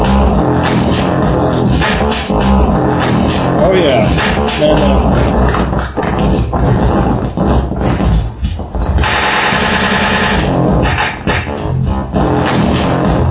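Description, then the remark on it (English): A heavily distorted drum loop blares continuously, harsh and gritty with a dense buzzing crunch over the beat, while a voice speaks briefly over it. “And then we can do distortion.”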